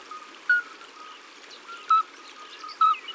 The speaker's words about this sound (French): Tiens, j'ai dans mon enregistreur le chant des alites. Voilà, écoute.